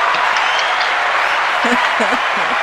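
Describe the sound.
Steady, dense audience applause fills the whole stretch at an even loudness, a hiss-like wash of many hands clapping, with a voice faintly speaking underneath toward the end.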